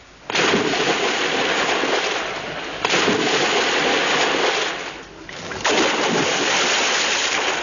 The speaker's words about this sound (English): The third splash is, of course, Max Geldray.